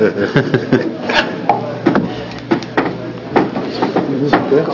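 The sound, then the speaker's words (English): A chair is fetched from the other side and shifted into place at a committee hearing: a run of wooden knocks, scrapes and clunks at an uneven pace, with faint murmuring voices underneath. “No shorter chair. Hold on. Getting one over on the other side.”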